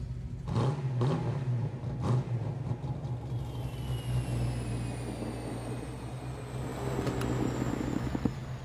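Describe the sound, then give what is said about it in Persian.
A new car's engine rumbles and revs up, its low hum rising and falling over several seconds with a steady mechanical whir underneath, and no voices. “باز یه ماشین جدید”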